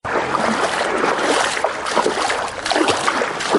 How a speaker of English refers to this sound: wades through knee-high water on a flooded street. This is Bor Town's main street, which now looks more like a river.